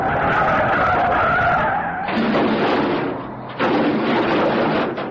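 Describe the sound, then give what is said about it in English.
A car brakes hard, its tires screeching in a loud, sustained skid that lasts several seconds, with two abrupt surges of harsh scraping noise partway through. No voices are heard. “There's another car coming up real fast. Looks like it's chasing Chuck. So it does. I hope he can stop in time.”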